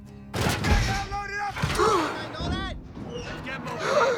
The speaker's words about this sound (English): Ryan wakes up as the container doors are pushed closed.